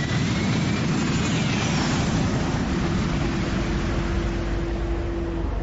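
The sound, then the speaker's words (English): A jet fighter's engine roars steadily and loudly throughout, near 5,000 feet in storm turbulence, with a faint whine drifting in pitch and a steady hum emerging partway through as the aircraft drops in an air pocket. No voices are heard. “That was an air pocket. Causing us to drop.”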